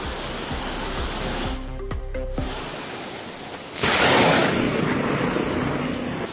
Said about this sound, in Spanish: La tormenta tuvo su momento álgido en el mediodía cuando comenzaba a amenazar con sonidos como este.